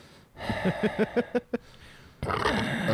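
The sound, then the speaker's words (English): A voice imitates heavy breathing: a quick series of about seven rhythmic, grunting pants, then a short pause and a louder, sustained breathy rasp. “And heavy breathe whenever a girl comes into the game store.”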